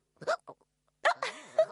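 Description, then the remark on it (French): Several sharp, abrupt hiccups in close succession, each a short voiced gulp, with a brief pause between the first pair and the later cluster; fairly loud, no talking. “a le hoquet.”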